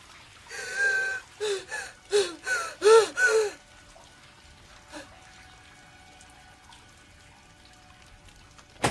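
A woman on her knees bawls as running water stops, in a run of about six rapid, gasping sobs, loud, over a few seconds before they break off into near silence.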